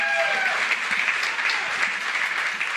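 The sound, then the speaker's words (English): Steady, dense crowd applause from Oklahoma football fans fills the whole stretch, a continuous wash of many hands clapping at a loud, even level, with a brief whistle-like tone at the start. “Give yourself a round of applause, guys.”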